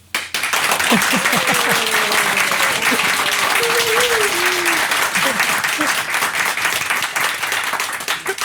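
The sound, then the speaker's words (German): Sustained applause from a live audience in a HiFi studio in Koblenz, dense steady clapping throughout, with some voices and cheers mixed in beneath it. “Die heutige Episode nehmen wir in unserem HiFi-Studio in Koblenz vor Publikum auf.”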